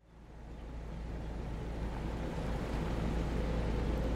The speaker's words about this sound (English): It's October the 27th, 1962. An American naval destroyer, the USS Beale, chugs through the Caribbean Sea just off the coast of Cuba.